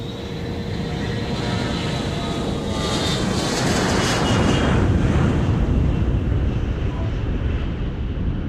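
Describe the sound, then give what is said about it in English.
A propeller airplane engine in a video game drones steadily with a broad, rushing roar, swelling briefly at its loudest before the sound thins and fades as the plane flies away. “Our plane flies away into the sunset.”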